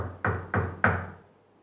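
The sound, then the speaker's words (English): Three firm knocks on a wooden door, evenly spaced, each with a short resonant decay, the last one slightly louder and ringing out longer. “And sometimes, when we're having these daily times with the Lord, there can be the knocking.”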